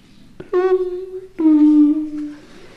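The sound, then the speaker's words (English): A house's two-tone doorbell chime rings once, a ding followed by a slightly lower dong, each note struck sharply and sustained briefly before fading, fairly loud with no voices. “That's my doorbell.”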